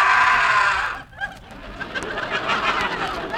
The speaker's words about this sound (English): That scream you just heard was the geek. That wild inhuman fiend is dangerous.